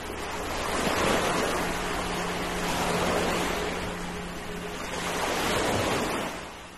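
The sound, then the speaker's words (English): Mild sea waves break against the shore beside a house at the water's edge in a steady, rhythmic wash. Three broad surges swell and recede over a continuous roar of surf, moderately loud, with no voices. “No, this is very mild, like in the winter when the waves go over the house and the house shakes, and then you're aware of like how absolutely relentless the sea can be.”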